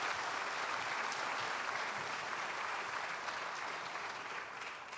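An audience applauds steadily for about five seconds, a dense, even wash of many hands clapping at once that holds its loudness and fades slightly at the very end.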